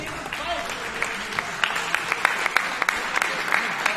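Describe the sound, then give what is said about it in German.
Steady audience applause at the end of the Rookie Rumble fight event on a Sunday, Mother's Day: a dense wash of many hands clapping with sharper individual claps standing out rhythmically, fairly loud and sustained throughout with no talking over it. “Herzlichen Applaus.”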